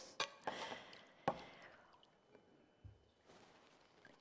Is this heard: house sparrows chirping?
no